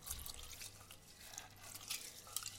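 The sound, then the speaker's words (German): Quiet sloshing and dripping of water as food is washed by hand in a bowl, turning the water cloudy, with soft irregular splashes and trickles over a low background hum. “Dann wasche ich das jetzt. Und dann wird das auch so trüb, das Wasser.”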